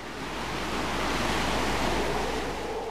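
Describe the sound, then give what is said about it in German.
Steady roar of crashing sea waves mixed with gusting wind, a dense, continuous wash of surf noise that stays loud throughout, with no voices. “Die heranbrausenden Wellen hatten keinen Schaden angerichtet”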